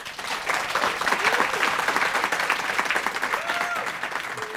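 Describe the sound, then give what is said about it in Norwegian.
Sustained audience applause for a woman author who will sign and sell her book, a dense steady clatter of many hands clapping at even loudness for several seconds, with faint whistles or cheers rising briefly above it. “En stor applaus til damen som snart der borte og signerer og selger boka si,”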